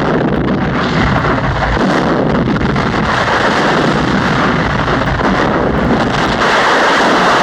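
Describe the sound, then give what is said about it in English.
Thunder rolls in a loud, continuous rumble, a dense roaring wash with heavy low-end weight that stays steady for several seconds, with no voices over it. “That's thunder.”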